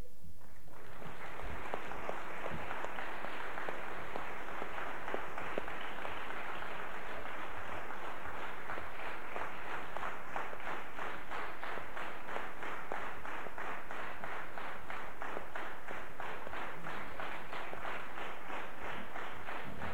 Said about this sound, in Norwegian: Og det synes jeg dere skal gi en håndfast applaus for de som har jobbet i styret.